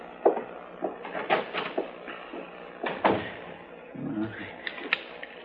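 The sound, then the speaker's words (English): A door is opened and shut, with a handful of sharp wooden knocks and rattling clatters spread over a few seconds, followed by a softer low thud as it settles closed. “It's right through that door there.”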